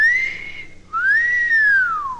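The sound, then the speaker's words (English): A loud, clear two-part human wolf whistle, a short rising note, a brief break, then a long tone that sweeps up and glides back down, with no talking. “The four-legged wolf howl expresses its feelings there and then, and so does the wolf whistle.”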